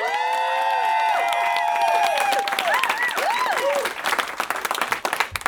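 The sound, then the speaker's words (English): A crowd bursts into loud, sustained applause, dense clapping mixed with rising whoops and cheers from several voices, carrying on steadily for several seconds, applauding to pick a favorite, starting with Matt Lieb's Alexander Graham Bell. “So, with your applause, pick a favorite, starting with Matt Lieb, Alexander Graham Bell.”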